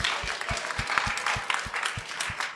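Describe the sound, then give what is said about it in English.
A crowd of people applauding, dense steady clapping with a few louder individual claps standing out, sustained for a couple of seconds at moderate volume with no talking. “Can we give Sim a huge round of applause, please?”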